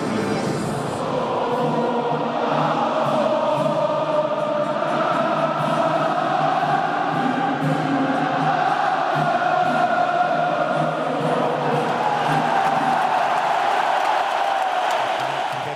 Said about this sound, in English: It's all blue, red and white, apart from one bright yellow corner where the Romanians have made themselves very much at home. The players are warming up, we're getting close to kickoff, and the crowd cannot wait.